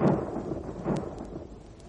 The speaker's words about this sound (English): it's raining. It's raining. That's lovely rain. Just what the doctor ordered. It'll fill the barrel.